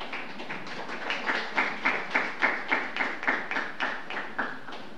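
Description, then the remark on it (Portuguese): Applause from a crowd at a ceremony for an honoree, the claps falling into a steady rhythmic beat of sharp, bright pulses several times a second, moderately loud and sustained throughout, with no voices. “Mais uma vez, uma calorosa salva de palmas ao homenageado.”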